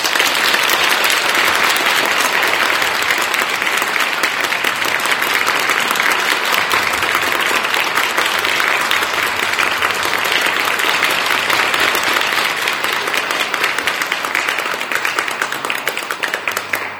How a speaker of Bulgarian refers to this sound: Моля, аплодисменти.